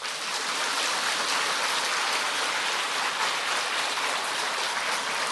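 An audience at a Buddhist teacher's talk applauds on his call, steadily for several seconds, many hands clapping into a dense, even wash of noise that holds at the same loudness throughout, with no voices heard.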